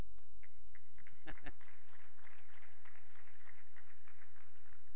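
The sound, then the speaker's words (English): An audience claps steadily for several seconds as the speaker finishes his talk, a dense patter of many hands, with a couple of sharper, louder claps standing out early on. “And you're clapping because, finally it's over.”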